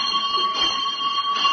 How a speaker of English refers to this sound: That's all, boys, and when I ring the bell for the first lesson, I want you all to go and get your hair cut.